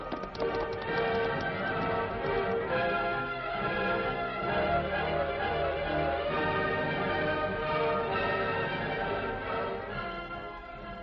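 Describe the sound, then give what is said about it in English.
Horses' hooves clip-clop in a steady running rhythm as the horses Silver and Scout set off with their riders, continuous beneath a dense, sustained musical backdrop that stays at an even loudness throughout. “Steady, big fella. Come on, Silver. Get him up, Scout.”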